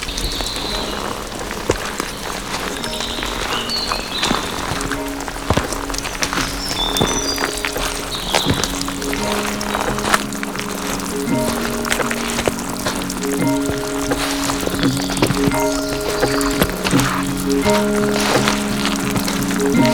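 Raindrops falling among vegetation in a steady, dense patter, with louder individual drips popping out irregularly. A low, sustained tonal hum runs underneath, and no one speaks.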